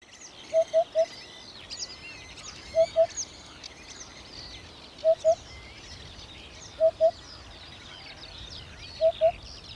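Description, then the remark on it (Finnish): Many birds sing in a dense outdoor chorus at the Mussalo golf course in Kotka, Finland, on a windy, rainy early-summer midday, with one bird repeating short whistled notes in twos and threes every couple of seconds, over a steady low rumble of gusty summer wind. “Ei, en ole paikalla lentävien golfpallojen vuoksi, olen paikalla lintujen vuoksi.”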